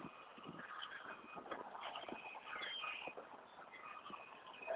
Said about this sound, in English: A lot of birds.